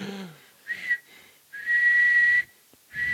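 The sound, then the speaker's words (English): Someone whistles two tones at once in short bursts and one long sustained note, with a second pitch humming along beneath the main tone, giving a doubled, two-note quality. Fairly loud, with no talking. “Oh, were you whistling two noises at once?”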